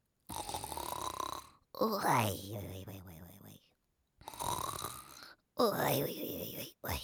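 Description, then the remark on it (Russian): A voice imitates an old man's loud snoring in four long rasping breaths, alternating harsh rattling inhales with breathy, whistling exhales, prominent with short pauses between them. “А когда дедушки спят, они что делают? Храпят.”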